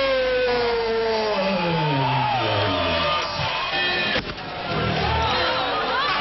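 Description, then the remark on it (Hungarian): A loud, dense New Year's Eve street crowd of thousands in Miskolc celebrates with overlapping shouts, whoops and blaring toy trumpets whose wavering tones rise and fall, plus a brief sharp crack around four seconds in. “Sok vidéki nagyvárosban, így itt is több ezeren az utcán szilvesztereztek, tűzijátékkal és koncertekkel.”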